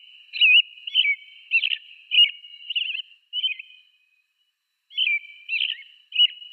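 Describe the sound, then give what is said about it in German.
An American robin, a common North American bird, sings a clear, caroling song of short warbled phrases, repeated in a steady series with a brief pause midway, fairly loud against a quiet background. “ich bringe die Wanderdrossel mal als Sound mit, weil die doch sehr schön ist.”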